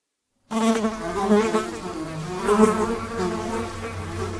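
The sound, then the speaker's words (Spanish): A fly's wings buzz steadily in flight, a continuous drone with a wavering pitch that swells and dips slightly as it moves, with no voices present. “Las moscas son mudas, y sin embargo, con sus alas producen lo que podríamos llamar su voz.”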